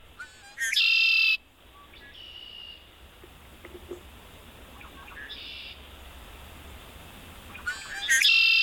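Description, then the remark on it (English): A red-winged blackbird sings two loud, buzzy trilling songs, one near the start and one at the end, with softer chips and whistles scattered between over faint outdoor hiss. “Let's give a listen to the red-winged blackbird.”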